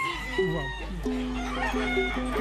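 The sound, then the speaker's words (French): Fighting roosters crow one after another in drawn-out, overlapping calls, loud, over a steady low rumble and a faint murmur of people, as breeders queue to have them weighed before a fight at a cockfighting pit near Petit Canal, Guadeloupe. “Tout à fait, on va peser les coqs avant le combat, ça va?”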